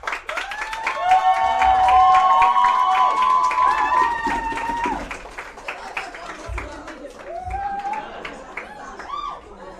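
A campaign team at the front cheers and whoops over steady clapping for their newly elected president as she thanks them after her speech, loud and sustained for the first few seconds, then thinning out before a few more high whoops rise near the end.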